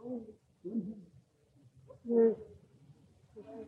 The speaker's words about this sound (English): Cuckoo. Have you heard? Cuckoo. How in pleasant? In Vrindavan also? In fifth. Very loud. Very pleasant. Cuckoo.